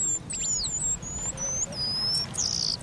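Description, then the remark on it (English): Bright, high-pitched calls of the eastern paradise whydah, a small finch found in East Africa, ring out in a quick run of chirps and sweeping whistles, clear over a soft, steady background hum. “A few times each year, the eastern paradise whydah puts on its party clothes.”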